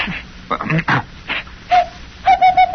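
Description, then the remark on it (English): A person imitates a bird call, starting with a few breathy vocal bursts and then sustained whistled, cooing notes ending in a quick pulsing run of repeated tones. “about 8:40 we start making bird calls”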